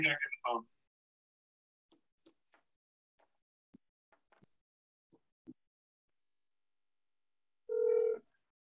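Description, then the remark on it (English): Soft scattered clicks like phone keys being pressed as someone dials to call back by phone, between a brief noisy burst at the start and a short, steady electronic telephone tone near the end, with no talking. “I'll call you back on the phone.”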